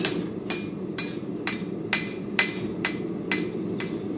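A blacksmith's hammer strikes metal on an anvil in a blacksmith's shop in a steady rhythm, about nine sharp ringing blows, clear over a low background rumble, with no talking.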